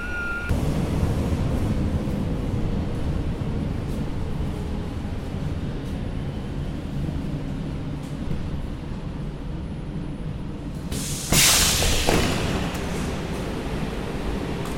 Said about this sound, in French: Nous voilà dans le métro, on embarque pour atterrir on ne sait où.